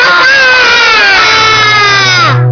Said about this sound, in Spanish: Sí, eso era la vaca, es verdad. Es una vaca un poco enfadada, quizá porque grité mucho, no lo sé.